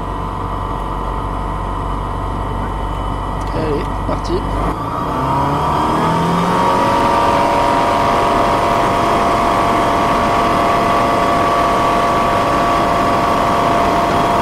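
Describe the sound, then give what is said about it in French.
A small airplane engine idles with a low rumble at Avignon, then revs up partway through as the plane is cleared for takeoff, climbing in pitch into a loud, steady, humming drone that holds to the end. “Allez, décollage autorisé, on prend une grande respiration.”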